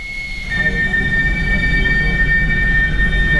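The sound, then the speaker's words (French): A steam train leaving La Chaux-de-Fonds station at full power, climbing, rolls along the rails with a steady, heavy low rumble, joined after a moment by high, sustained metallic wheel squeal tones that hold to the end. “On voit ces fameuses locomotives à vapeur qui sortent de la Chaux-de-Fonds, ici, de la gare de la Chaux-de-Fonds, à pleine puissance pour essayer de grimper jusqu'ici.”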